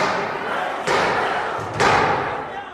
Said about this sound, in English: And then there was a sound I will never forget, the sound of pounding on the door like a battering.